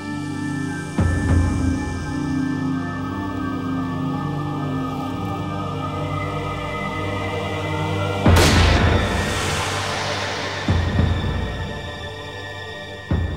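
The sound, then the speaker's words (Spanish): One sharp, loud gunshot cracks out partway through, ringing off with a short echo over a low, steady droning background; no one speaks. It is the single shot to the head that killed a hunter walking in a field. “Loring fue asesinado de un solo disparo en la cabeza.”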